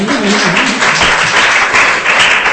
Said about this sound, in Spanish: Aplausos, dice aquí, que lo pone aquí.